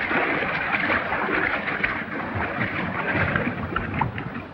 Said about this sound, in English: Tossing aside his hat and gun belt, John dives into the river.